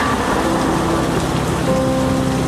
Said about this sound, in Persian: یا اینجا بارون میاد، این صدای رعد و برقه؟ یادت میترسیدی؟ یادت میگفتی بی چتر نمیشه زیر بارون رفت؟ باورت میشه من دیگه نمیترسم، من زیر بارونم بدون چتر و سرپناه.